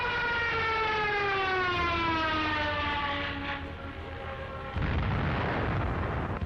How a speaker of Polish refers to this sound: Stało się. O godzinie 7.30 śpiących jeszcze mieszkańców miasta obudziła seria wybuchów. Lublin został zaatakowany przez niemieckie samoloty.